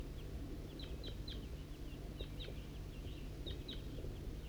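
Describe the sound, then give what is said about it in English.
Calls of a wild flock of crossbills coming from the east at 8:21, sharp high chips given in three quick clusters of two or three notes, faint over a steady low rumble. “Recording, it's 8:21 and a wild flock of crossbills is coming from the east.”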